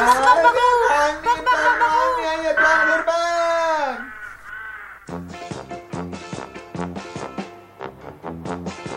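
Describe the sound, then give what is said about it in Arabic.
Several crows caw loudly as they try to attack a parrot and steal things from its house, their harsh drawn-out calls overlapping for a few seconds, followed by a rapid run of short, repeated caws in a steady rhythm. No one speaks. “وفعلا يا أحبائي، طارت الحمامة بسرعة إلى بيت الببغاء، ولما وصلت شاهدت مجموعة من الغربان تحاول أن تعتدي على ببغاء وتسرق أشياء من بيته، والببغاء لوحده غير قادر على مواجهتهم.”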